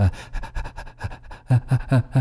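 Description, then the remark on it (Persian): A person pants in quick, rhythmic breaths, a dozen or so short huffs that grow louder and more voiced toward the end, like a panting dog, as a singing breathing exercise to strengthen the larynx muscles. “صداتون باید در نزدیکترین سطح به صدای نفس زدن باشه. چیزی شبیه به این.”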